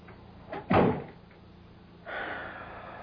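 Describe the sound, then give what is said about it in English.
A door swings and shuts with a solid thud, followed by a moment of quiet and then a soft rushing sound like air or a latch settling. “If you want me to tell you what he said, shut the door.”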